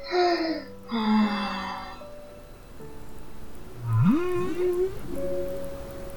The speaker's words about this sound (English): Whale sighed.